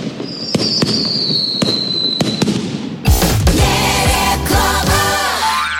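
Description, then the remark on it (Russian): "Trakh-bakh" brand fireworks going off in a rapid series of sharp bangs and crackles, with a whistling tone early on, then a denser burst of booming explosions and rumbling that continues loudly to the end. “Ваши деньги сгорят красиво. Трах-бах, трах-бах.”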